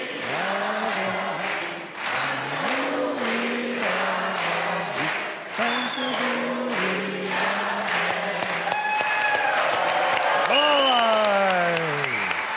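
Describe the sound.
A crowd claps enthusiastically and steadily throughout, loud and dense, with voices whooping and calling out over the applause, rising into drawn-out cheers near the end.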